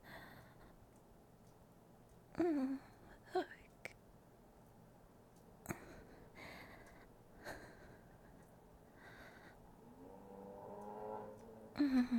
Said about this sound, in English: Ignore the cars.